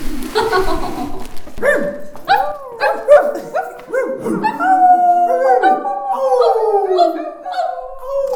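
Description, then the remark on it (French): Several friends howl together like a pack of dogs, rising and falling wails overlapping for several seconds, with yips and a few barking bursts mixed in, loud. “On a tous un autre enfant qui est encore en nous, qu'on aime accentuer parfois, et qu'on s'est tous retrouvés en meute comme les chiens.”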